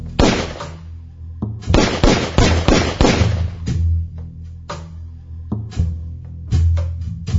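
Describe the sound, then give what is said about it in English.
A rapid, loud volley of gunshots crackles in quick succession as Hyphren shoots Dorothy, then thins into scattered, echoing shots over a low rumble, with no one speaking. “And when she got to blessed are the peacemakers, Clodoaldo shook his head yes, and Hyphren shot her.”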